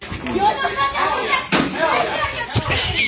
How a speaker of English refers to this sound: She picked up. I didn't even know you could move those things. The jug of tea. Oh my god! Slamming on the ground, pulling some King Kong shit.